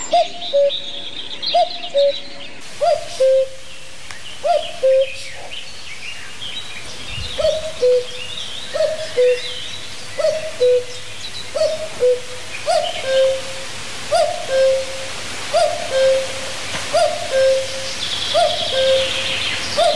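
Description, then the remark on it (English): A common cuckoo calls its two-note 'cuck-oo' over and over at a steady, unhurried pace, clear, with faint chirping of other birds in the background. “That's the unmistakable sound of the cuckoo in all its glory, arriving in April, leaving in July.”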